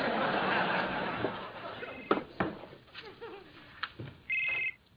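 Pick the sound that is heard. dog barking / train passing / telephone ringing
telephone ringing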